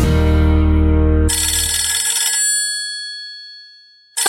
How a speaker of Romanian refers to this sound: Sună telefonul, Dani.